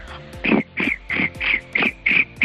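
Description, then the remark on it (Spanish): A person imitates a cricket with a steady series of about eight short, buzzy chirps, evenly spaced and fairly loud, with no talking in between. “Bueno, pues mi talento mierder es hacer el grillo.”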